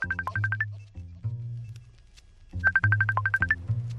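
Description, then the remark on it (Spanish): A phone ringtone plays two bursts of quick, bright electronic beeps over a low sustained bass tone, with a short pause between them. It sounds clear, and no one speaks. “Vamos a escuchar no este teléfono, sino los otros teléfonos.”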